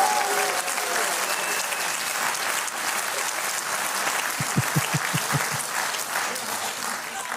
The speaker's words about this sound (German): Da applaudiert ihr jetzt. Da bricht so ein Applaus aus.